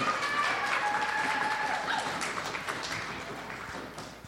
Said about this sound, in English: A better applause.